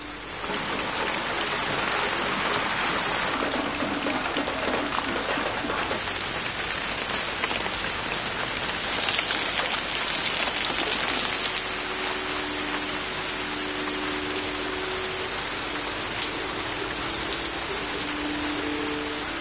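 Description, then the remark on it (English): Steady rain patters densely on a hard surface, a continuous, even hiss of countless drops with no pauses and no voices. “If only there could be something equivalent to rain falling inside, then the whole of a room would take on shape and dimension.”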